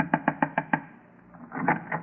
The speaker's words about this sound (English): I'll knock again.